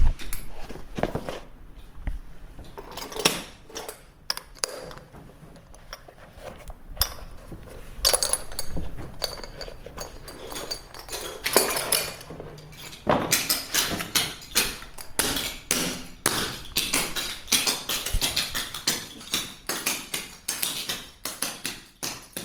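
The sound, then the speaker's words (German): Clog dancing steps: sharp, bright wooden clacks and taps in quick, uneven bursts, sparse at first and then growing denser and more continuous in the second half, with no talking. “Ja, und wo ich gehe und stehe und Musik höre, klogge ich.”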